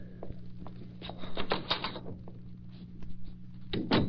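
A door handle and lock click and rattle in a few short bursts over a low steady hum, ending with one louder clack, as the door into the living room is locked. No one speaks.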